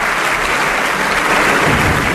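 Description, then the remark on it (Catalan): An audience applauds the mayor of Warsaw after he gives thanks in Catalan, steady and loud, a dense wash of many hands clapping continuously without pause, with no voices standing out. “Aplaudiments.”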